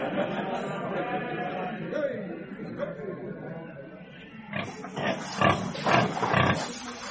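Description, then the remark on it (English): Pigs grunt and snort, first as a steady jumbled murmur, then as a run of short, loud, rough bursts in quick succession. “How'd you like to take one of these porkers home?”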